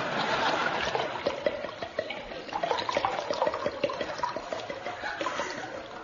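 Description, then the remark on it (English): A drink pours steadily into a glass for several seconds, a continuous gurgling splash with small bubbling pulses and no voices over it. “Just a spot more.”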